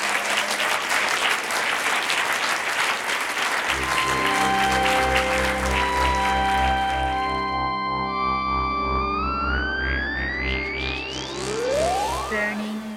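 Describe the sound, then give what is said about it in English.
A crowd claps enthusiastically for the guests in a dense, steady round of applause; a few seconds in, loud sustained music with rising swooping tones swells up and the clapping continues underneath it. “Maybe a round of applause for all of our guests.”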